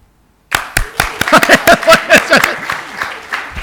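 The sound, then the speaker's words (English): A crowd breaks into applause for an engagement announcement after a brief silence, many hands clapping at once in a dense, lively burst that gradually thins out. “In case you're wondering what to do, yeah, clap.”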